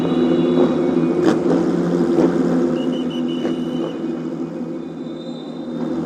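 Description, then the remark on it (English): Eighteen 4-litre flat-six racing engines fire up on the starting grid before a race on a 5.451 km circuit, idling and revving together in a loud, dense, low rumbling drone with steady buzzing overtones and occasional sharp throttle blips, with no voices. “Let's just revel in the noise of the flat six as they fire up 18 4-litre engines coming to life to do battle around this 5.451 kilometre or 3.388 mile circuit.”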